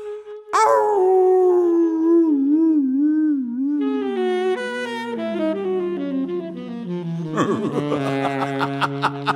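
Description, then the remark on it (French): Several dogs howl together in long, wavering, rising and falling notes, more voices joining in partway through and swelling into a loud chorus. No one speaks. “Salut les foutus chiens hurleurs de leur fiasque à moitié vide.”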